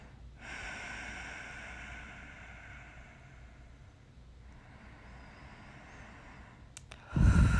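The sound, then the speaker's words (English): A person breathes slowly: a long, soft, airy breath lasting several seconds, then a quieter stretch, and finally a sudden louder rush of breath. No one speaks. “Just listen to me breathe.”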